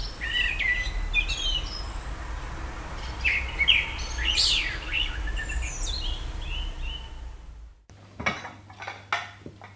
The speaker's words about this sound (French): Ces oiseaux.